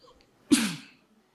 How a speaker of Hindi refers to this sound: फिर हमने पूछा कितने बजे, तो उसने कहा 3:30 बजे। मैंने कहा रोज 3:30 बजे? उसने कहा हाँ। और कितने बजे तक? 15 मिनट तक। और फिर बंद? नहीं बंद। अच्छी छींक है आपकी।